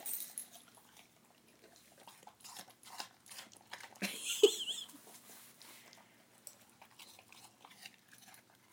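A dog crunches and chews on a slice of apple, with wet, irregular bites and a sharper crunch midway, followed by softer smacking and sniffing.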